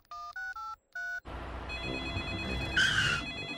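Four short two-tone keypad beeps dial a call to Grandpa Dog's tow truck service, followed by a noisy telephone ring on the line with a bright, shrill burst near the end. No one speaks.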